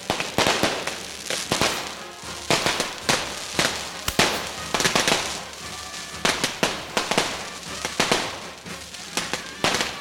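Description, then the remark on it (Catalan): Rapid, irregular bursts of firecrackers explode in sharp, loud cracks and pops, with a continuous crackling hiss filling the gaps between blasts throughout, as sparks fall down onto the people below. “Ens estan caient les espurnes a sobre.”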